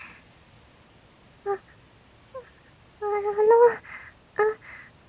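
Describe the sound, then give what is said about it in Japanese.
Rain falls steadily in a soft, even hiss. A few short, higher-pitched tonal sounds rise above it now and then, with one longer wavering sound near the middle. “雨宿りしていきませんか？遠慮しなくても大丈夫ですよ。”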